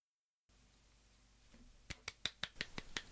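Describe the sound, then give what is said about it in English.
Hands clap sharply around eight or nine times in a quick, slightly uneven rhythm, each one a crisp, bright smack over a low background hiss, with no one talking. “That, just want to say, is that you clapping, or...?”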